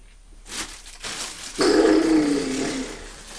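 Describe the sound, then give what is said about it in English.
A cat lets out a drawn-out, low yowling cry for a little over a second, fairly loud, after a couple of brief rustling bumps. “Hello, pussycat. Oh, Thomas. That's a nice noise, is it?”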